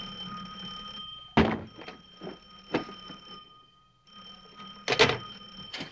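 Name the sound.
telephone ringing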